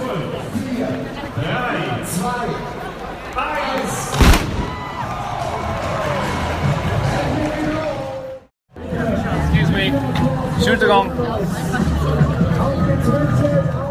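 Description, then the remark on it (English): A large crowd at a race start line during the countdown, with announcements made in German and English, many voices talking and cheering at once in a steady roar, broken by one sharp bang and a brief moment of silence. “So there were just lots of energy at the start line.”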